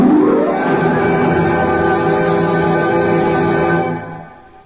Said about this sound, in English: That's the classic sound of wind howling in the chimney.